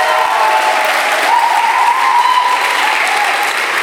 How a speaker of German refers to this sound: Ich weiß, Schweizer sind ein bisschen zu reservierter, aber komm mal, wollen wir mal Jesus einen fetten Applaus geben? Komm mal, weil er es verdient hat.